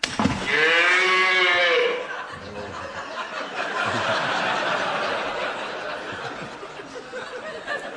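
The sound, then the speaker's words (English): Voices imitate a cow, a loud drawn-out moo lasting about two seconds, followed by a burst of overlapping laughter and chatter from several people. “We did the cow.”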